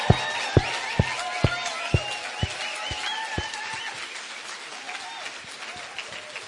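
An audience breaks into a round of applause, a dense wash of clapping with one steady, sharp clap pattern standing out at first, a few voices mixed in, gradually thinning and fading out.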